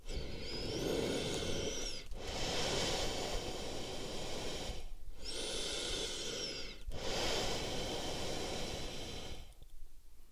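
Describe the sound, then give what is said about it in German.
Loud snoring from a person lying on his back, two long rasping breath cycles with a whistling, wheezy edge on each inhale and a brief pause between them, with no talking. “dreht sich auf den Rücken und fängt laut zu schnarchen an.”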